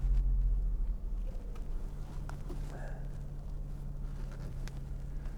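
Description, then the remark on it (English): Cars coming and going all over the place, heard as a steady low engine rumble and hum, fairly constant in level with a slight drop early on, mixed with some wind noise and no talking. “Cars coming and going all over the place.”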